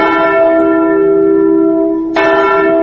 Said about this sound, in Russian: Здесь, в Катыни, в апреле всегда слышен звон траурного колокола.